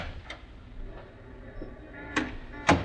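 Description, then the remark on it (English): A door is opened: a faint click, then two sharper latch-like knocks near the end, the last the loudest, over a low, steady background hum. No one speaks. “Now, open the door and step outside.”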